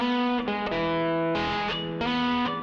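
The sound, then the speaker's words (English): A distorted electric guitar plays sustained, buzzy chords that change every half second or so, thick with harmonics and steady in loudness, with no voices. “They can buy a cheap electric guitar, run it through a pedal board, a laptop, even a phone, and sound like ….”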